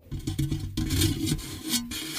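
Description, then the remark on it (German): A person imitates the rubbing and scraping sounds made in ASMR videos by an ASMR influencer: a quick series of short, rhythmic rasping strokes, then a steadier, louder scratchy rubbing that continues for a couple of seconds, with no speech. “ich folge so einer Influencerin oder so einer Frau, die macht ASMR.”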